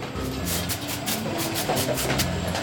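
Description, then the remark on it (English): Short, sharp hissing air puffs from an automatic optical plastic sorter made in the Netherlands. Its scanner spots clear plastics such as water bottles and blasts them with air. The puffs fire in quick, irregular succession over the steady, loud rumble and hum of heavy sorting machinery. No one speaks. “Right here, the scanner is looking at the materials as they come by, and when it sees a clear plastic, like a clear plastic water bottle, it hits it with a puff of air, and you can hear it.”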